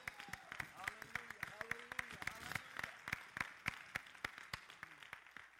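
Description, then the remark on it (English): An audience claps hands to the Lord Jesus Christ, sharp crisp claps falling in a loose, fairly steady rhythm throughout, with voices calling out underneath. “Come on, let us give a hand clap to the Lord.”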